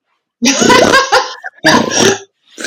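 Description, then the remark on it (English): A voice imitates a man's pig-like snoring while asleep in two loud, gritty snorting bursts, each a raspy nasal grunt, with a brief pause between them and a third starting at the end. “Oh, that's actually quite a cute little snore.”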